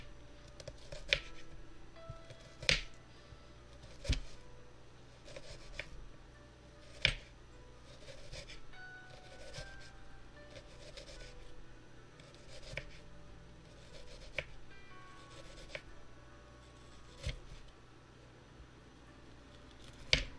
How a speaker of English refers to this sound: Alright, so I'm just gonna dice up this onion.